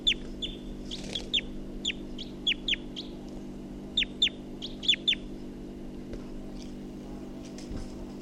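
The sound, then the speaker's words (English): A wild bird calls in quick bursts of short, sharp, high-pitched chirps, pausing between clusters, over a steady low mechanical hum. “I think the wild bird took off at 7:29, and this is bird 348.”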